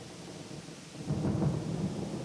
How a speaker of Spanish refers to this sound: Llovía como suele llover en la selva. El agua caía a cántaros doblando las hojas. Los relámpagos cortaban el cielo gris y los truenos hacían temblar hasta las paredes del estómago.